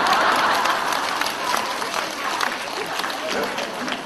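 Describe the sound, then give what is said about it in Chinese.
An audience bursts into sustained applause, dense overlapping claps forming a steady loud wash that holds for several seconds without letting up. “刚刚还说你们很开悟的，鼓掌都不知道”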